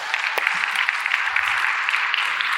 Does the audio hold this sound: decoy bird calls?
no